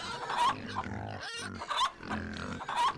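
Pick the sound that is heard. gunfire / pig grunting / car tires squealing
pig grunting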